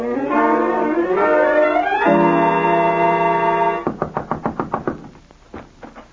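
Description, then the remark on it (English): A rising, swelling musical sting gives way to a rapid burst of about eight loud pounding knocks on a door, followed by a couple of fainter knocks after a short pause. “You scared me out of my wits with that pounding.”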